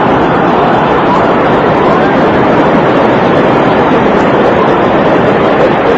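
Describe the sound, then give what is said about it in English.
A steady, loud rumble of a train running on the tracks of the first American railroad, near Baltimore Harbor in Maryland, a dense, unbroken roar that holds at the same level throughout with no clear clatter or whistle. “Yes, and it was near here that the first American railroad started operation. And it's still running today.”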